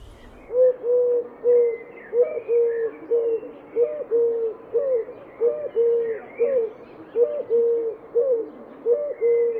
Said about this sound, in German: Und die Türkentaube gurret vor sich hin. Hol Surkraut, rühe du. Hol Surkraut, rühe du.